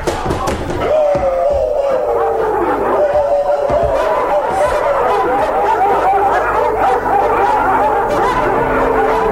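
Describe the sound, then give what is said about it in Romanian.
A person loudly imitates a dog, barking and growling in continuous bursts, with snickers and laughter mixed in and an occasional thud. “Câine mărșav ce ești. În patru nave.”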